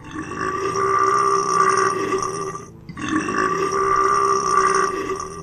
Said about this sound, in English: One cow can produce up to 200 kilograms of methane a year, most of it released as burps.